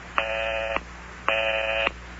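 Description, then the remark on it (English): A telephone busy signal on a living-room phone after dialing a number: two buzzy, evenly spaced tones, each lasting about half a second with a short gap between, heard clearly over faint line hum with no voices. “And I keep getting the busy signal.”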